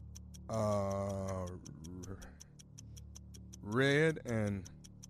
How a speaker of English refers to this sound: start the clock. Give me 60 seconds, please.